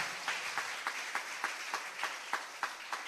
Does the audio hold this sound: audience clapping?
yes